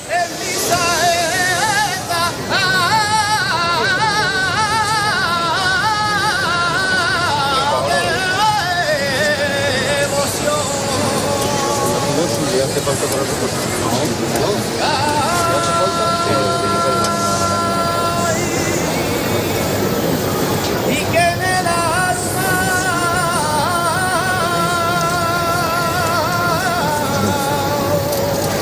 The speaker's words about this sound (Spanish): Esta maravillosa saeta que acabas de escuchar se la cantó nuestro próximo invitado a la Virgen del Rocío en la Plaza de la Campana de Sevilla, y lo hizo además en presencia del rey.